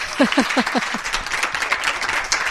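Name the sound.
schoolchildren applauding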